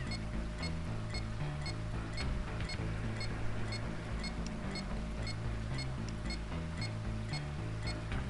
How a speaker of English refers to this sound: So we wait. Here come the tanks.